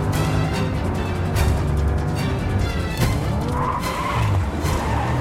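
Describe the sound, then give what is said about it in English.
A car roars at high speed against the flow of traffic, engine noise throughout, its tires screeching and skidding repeatedly as it narrowly misses a major collision at a junction and ends up driving down the pavement, amid a busy, loud traffic wash, with sharp squeals near the middle and end. “Brian hurtles along against the flow of traffic. He narrowly misses a major collision at a junction and ends up driving down the pavement.”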